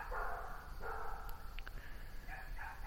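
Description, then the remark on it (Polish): Several dogs bark in a village in the countryside at night, after 10 p.m., in fine moonlit weather; their faint, repeated yaps overlap in loose bursts over a steady low rumble of outdoor background noise. “W tle szczekają psy. Jest ich tutaj nawet sporo.”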